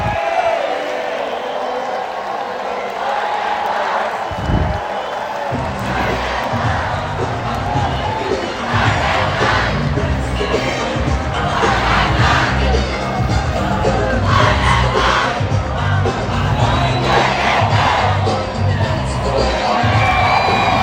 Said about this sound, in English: I'm not sure what that cheer was.